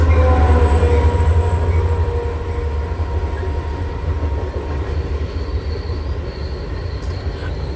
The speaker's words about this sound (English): And it seems I picked the wrong spot to sit here and record at, because I'm like by a train and the train keep coming, y'all. That's why y'all keep hearing that noise. The train keeps coming. I'm like, okay, when is the train going to slow down?